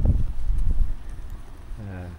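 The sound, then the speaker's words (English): Low, rumbling gusts of an about 20 mph wind buffet the microphone in uneven bursts by the sea at a beach, strongest at the start and then easing, before a voice begins speaking at the end. The sky is cloudy but clearing. “It's about a 20 mile an hour wind, so you'll get that every so often, but it's gusts at the moment rather than a full on wind.”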